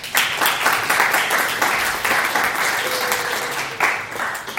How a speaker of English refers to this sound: So he definitely deserves a round of applause.